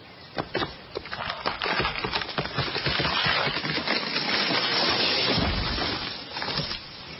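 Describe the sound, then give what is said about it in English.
A tree falling in a forest: a long run of loud, dense wooden cracking and splintering that builds into a sustained crackling roar, then eases off into scattered snaps. No voices are heard. “If a tree falls in the forest and no one is around, does it make a noise?”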